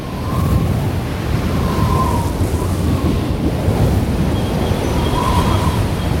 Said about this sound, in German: Mein Gott, das ist doch ein Albtraum da draußen. Haben Sie noch nie einen Sturm auf See erlebt